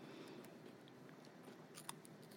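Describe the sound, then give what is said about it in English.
Quiet crunching as someone bites into a crisp cracker, like an animal cracker but not animal-shaped, and chews, a series of brittle cracks and snaps over a few seconds with no talking. “Let's hear the crunch.”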